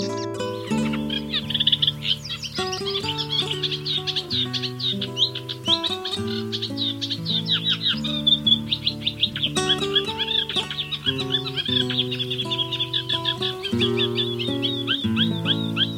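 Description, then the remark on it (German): A Eurasian reed warbler sings continuously in a rapid, chattering stream of scratchy, repetitive notes over a soft bed of steady instrumental music. “Das war der Teichrohrsänger.”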